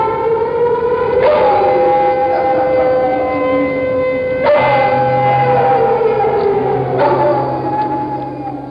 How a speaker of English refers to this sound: Saturday at noon, there's an air raid drill.